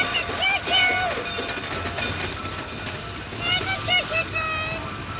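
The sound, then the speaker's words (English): A train rumbles steadily past, with grinding wheel noise and bright squealing tones rising around the start and again near the end. “A choo-choo train!”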